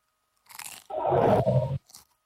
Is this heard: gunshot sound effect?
no